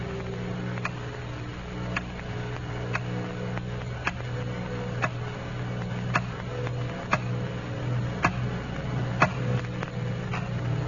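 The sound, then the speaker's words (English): A clock ticks steadily in a dark room late at night, about once per second, each tick a short crisp click over a quiet, constant low hum. No one speaks. “It's late at night and the clock is ticking.”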